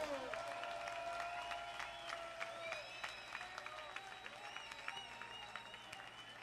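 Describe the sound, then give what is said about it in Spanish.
A crowd breaks into sustained, dense applause for the Concord, steady clapping running the whole way through, with scattered cheers and whoops rising over the top. “¡Un aplauso para el Concord!”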